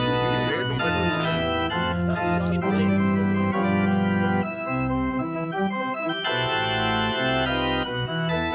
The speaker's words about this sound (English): That there tune's the wedding march. Oh, wedding march.